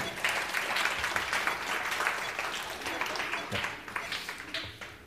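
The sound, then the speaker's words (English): A room full of people applauds, a steady wash of many hands clapping at once that holds strong for several seconds before gradually thinning out. “Round of applause.”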